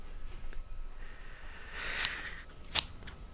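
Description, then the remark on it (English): Scissors cutting paper in a few quiet, crisp snips with a soft papery rustle between them, without any talking. “It's scissors cutting paper.”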